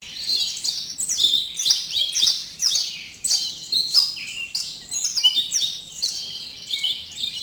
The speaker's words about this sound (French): Alors effectivement, des oiseaux, alors j'ai mis des oiseaux en cage, bon, bon, c'est des oiseaux.